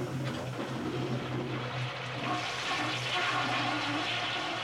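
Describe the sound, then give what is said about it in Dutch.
A toilet flushes with a steady, rushing torrent of water and a low rumbling hum throughout, loud, with no voices. “een grote mand met versnipperd papier in het toilet moet gooien. Telkens een handvol per keer en dan moet doortrekken.”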